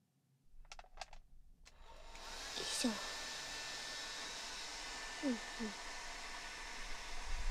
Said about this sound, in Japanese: こんなもんかな？じゃあ次はドライヤーしてくね。